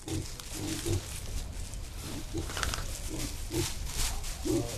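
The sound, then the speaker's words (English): A pig grunts repeatedly in short, low snorts, roughly every half second, over a steady hissy background with no one talking. “I played with the pig, I brushed the cows, and I had a good time.”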